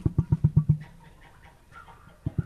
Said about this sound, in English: That's an amazing sound. It is. I love that. Vera Gelder and her emus, they're tall, strange birds like ostriches. Sometimes they get to talk into each other, and it's like a tea party out here.